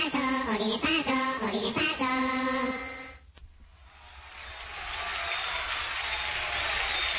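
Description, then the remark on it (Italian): A few seconds of sustained, harmonic music cut off abruptly, and after a brief lull an audience's applause for the finale swells into a steady, dense clapping that carries loudly to the end. “Decisi, più decisi questi applausi per il finale.”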